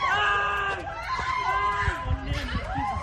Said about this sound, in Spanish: Estos son los gritos de las madres intentando proteger a sus pequeños de este agresor.